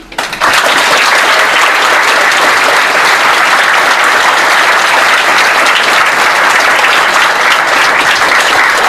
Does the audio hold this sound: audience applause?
yes